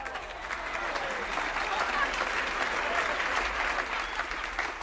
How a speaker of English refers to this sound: Let's give a big round of applause to Bobby Bear Jr.